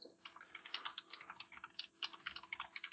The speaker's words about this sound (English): Just typing something first.